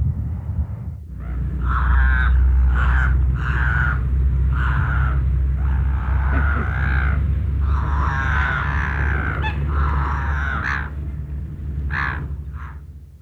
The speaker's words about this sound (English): But on a day like this, we can get quite close without the binoculars, in fact. Just listen to the black-headed gulls as they get up as we walk a bit closer.